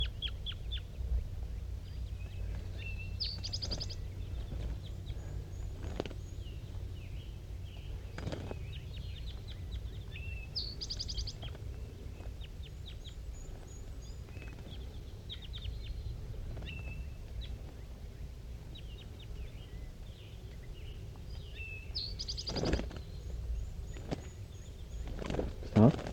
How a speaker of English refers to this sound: There are 2 wild birds still around in the top of that dead pine tree, and I can't tell what sex they are because the fog is just so thick. And they're calling pretty softly now, back and forth, 5-3 and the 2 wild ones.